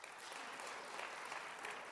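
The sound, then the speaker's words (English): Steady, dense audience applause cast as a vote for barbecue being pork; many hands clapping at once with an even, sustained roar and no pauses or voices breaking through. “those of you who believe that barbecue is pork will do so on the second”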